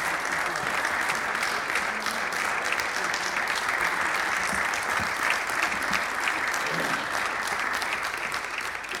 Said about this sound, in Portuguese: Deixem-me acabar para dar as palmas.